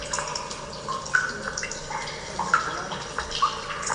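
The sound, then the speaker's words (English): A stalactite warning effect from an audio game, played from the game's sound menu, signalling that a stalactite is coming up: a few bright, high water-drip plinks spaced irregularly over a steady watery hiss, with no one talking. “Oh, here's what it sounds like when you're a stalactite's coming up.”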